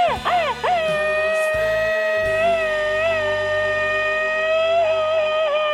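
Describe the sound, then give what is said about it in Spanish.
A loud, drawn-out Mexican grito: a few quick wavering yelps, then one long high held cry that wobbles slightly in pitch and rings steadily for several seconds. “¡Qué gritotes! Antes no te ahogas, criatura del Señor.”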